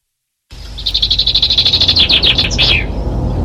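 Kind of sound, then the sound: bird, song thrush singing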